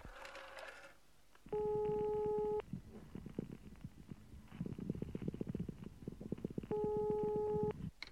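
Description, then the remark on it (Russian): A phone line buzzes with two long, steady electronic ringing tones, separated by several seconds of rapid, low clicking like a number being dialed. It sounds fairly loud, with no voices. “Так, телефон, телефон. Где телефон? А вот.”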